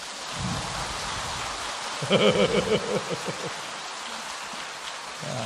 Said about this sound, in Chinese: 鼓掌